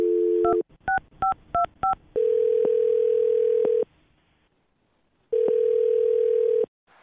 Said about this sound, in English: Well, I'm going to call him right now and see if he'll pick up our phone and then find out if he enjoyed your date or not.